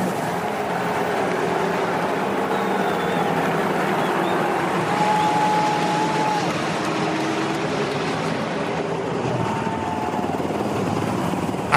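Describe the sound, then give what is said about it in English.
A steady, loud rumble of UH-60M Black Hawk helicopters of the 38th Combat Aviation Brigade flying overhead above a racing car and the field, a deep throbbing drone blending with broad outdoor crowd noise that holds constant for the whole stretch. “As the 38th Combat Aviation Brigade, UH-60M Blackhawks, fly above the stars and stripes of Santino Ferrucci's AJ Foyt racing car and this entire field.”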